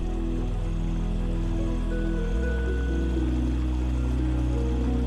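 A steady, continuous wash of flowing water from a babbling stream close by along a path at night, with a low humming drone underneath and no voices.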